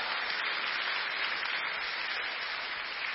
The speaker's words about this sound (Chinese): 再给上帝一个掌声吧，哈利路亚。